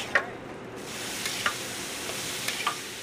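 Three burgers sizzle on a grill with a steady hiss while meat juices are scooped back onto them, broken by a few sharp pops and crackles every second or so. No one speaks.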